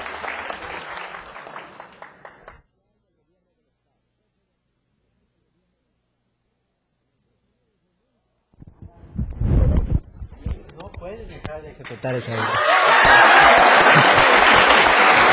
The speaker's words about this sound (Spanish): Se le tributa una cerrada y larga ovación al licenciado Alejandro Barrantes, jefe de Acción Social del gobierno del estado.